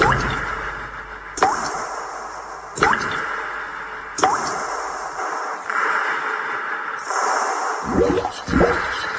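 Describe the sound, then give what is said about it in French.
Shower water hisses steadily, broken every second or so by sharper splashes and drips as the spray hits the floor. “Après une bonne douche avec l'eau Vivendi, je me rends au centre de Nice.”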